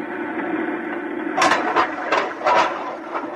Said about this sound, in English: Okay. I'm going to fill the lock. Here goes the outer door.